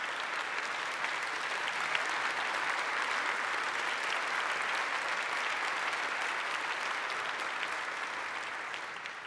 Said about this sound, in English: Yes, stand up. People want to applaud you. Please stand up.